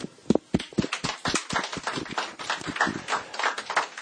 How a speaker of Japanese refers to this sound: じゃあ皆さん拍手しましょう。